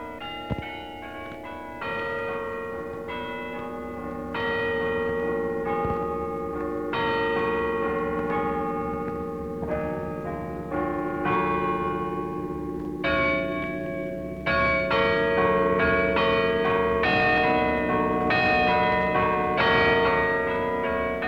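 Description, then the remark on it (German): The carillon high in the tower of the old Garrison Church in Potsdam, Germany, plays a steady melody on Christmas Eve 1940, each ringing strike overlapping the lingering hum of the last, sounding full and resonant with no voices present. “Das Glockenspiel hoch am Turm der alten Garnisonkirche.”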